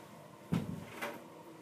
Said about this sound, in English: Okay, great. Let me just close the door real quick.